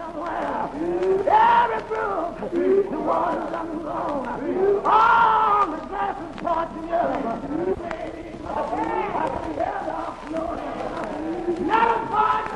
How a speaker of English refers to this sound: And you hear someone humming behind him. Yeah, it's the congregation in the Baptist churches, and still to this day, at least down here in Tennessee and in the South in general, the congregation is part of the service very much so